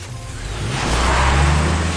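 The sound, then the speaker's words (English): A truck engine rumbles low and swells louder as a woman drives her truck away, a steady roar with broad hissing noise and no voices. “She gets in her truck.”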